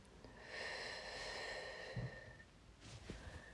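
A slow, soft breath out through the mouth during a guided breathing exercise, a steady airy rush lasting about two seconds, quiet, with faint sustained tones humming in the background and no talking.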